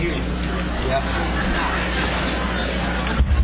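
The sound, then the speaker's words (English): Steady, dense crowd hubbub, a wash of many overlapping voices with no single speaker standing out, over a constant low rumble, like a busy gathering. “Look at the crowd.”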